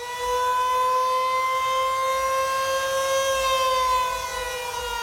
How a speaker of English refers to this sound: There are 156 warning sirens in Dallas, and every single one of them went off, which, you know, during tornado season isn't unusual, except that it was totally clear that night.